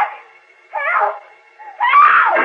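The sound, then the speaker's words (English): A woman's distant scream for help: three drawn-out, wailing cries that rise and fall in pitch, separated by short pauses, with nothing else around them. “Suddenly he hears Lois's faint, far-off scream for help.”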